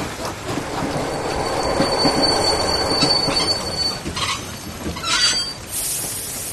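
A train rolls in with steady rumbling and clatter, its wheels letting out sustained high-pitched squeals that rise sharply near the end, loud with no voices.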